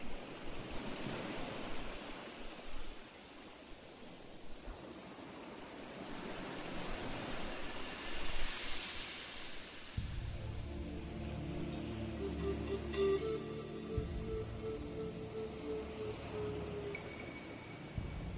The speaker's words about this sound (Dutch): De golven rollen in een eindeloos ritme op het strand.